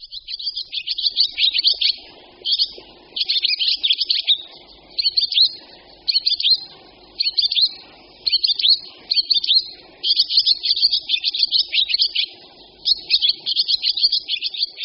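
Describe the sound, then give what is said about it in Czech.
A barn swallow twitters a rapid, chattering song of high buzzy notes and trills, delivered in fairly loud bursts with brief pauses, no voices present. “Ozývá se jim velmi oblíbený ptáček, vlaštovka obecná, kterou zejména na venkově lidé z jara netrpělivě očekávají.”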